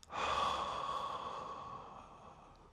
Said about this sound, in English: And breathe out. Really exhale.